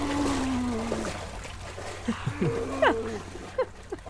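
A person cries out after jumping into very cold water in the morning after waking up: a long, low, wavering moan that sounds almost like a mooing animal, then a few short yelps and gasps over a steady background hiss.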